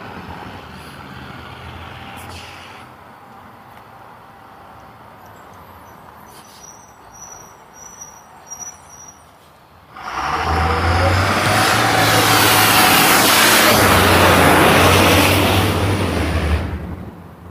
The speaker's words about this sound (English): A loud garbage truck.